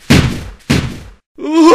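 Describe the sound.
A human voice imitates a pained animal howl: two harsh, breathy bursts, then a short, strained wail that rises in pitch at the end, loud.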